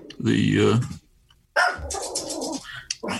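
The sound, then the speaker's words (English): A single drawn-out dog bark or yelp rings out loud, followed after a short pause by a person talking. “Is that how they responded, by barking?”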